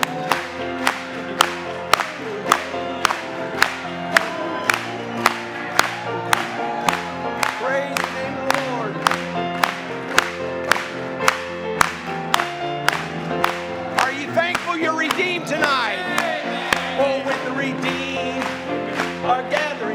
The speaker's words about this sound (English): Let's clap it to him tonight.